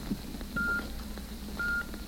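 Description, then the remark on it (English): Two short electronic time-signal beeps, produced by an electrical impulse from the observatory of the Elgin Watch Company, each a clean, steady high tone, sounding exactly one second apart over a faint low background hum. “The electrical impulse that produced that steady beep, beep, beep had its origin in the famed observatory of the Elgin Watch Company”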